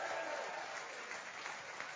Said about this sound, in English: And I don't know if you're online, maybe you didn't hear that cheer because these guys were not cheering loud enough in the audience this morning. So come on, guys, can we give a huge cheer to everybody?